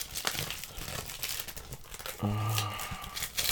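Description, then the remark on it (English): Crinkly wrapping paper, being unwrapped for wrapping presents, rustles and crackles continuously, with dense bursts of crunching and tearing, and a brief tonal squeak or murmur partway through. “It's funny you have to unwrap wrapping paper, you know?”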